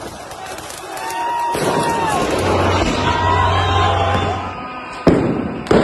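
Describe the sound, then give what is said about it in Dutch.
A dense crowd of street protesters demonstrating against the government after parliamentary elections roars and shouts continuously, a loud wash of overlapping voices, broken near the end by a couple of sharp, heavy bangs. “Tienduizenden, zo niet honderdduizenden mensen gaan de straat op om te protesteren tegen de regering.”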